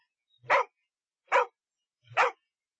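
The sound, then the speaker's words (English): A dog in a pet shop barks three times in a steady rhythm, each bark short and loud with clear pauses between them, against a quiet background. “This is a very nice dog, the woman said.”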